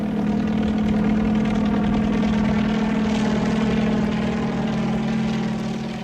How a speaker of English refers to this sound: As he steps out of his hut, he hears a familiar sound. There up in the blue African sky, he sees a helicopter.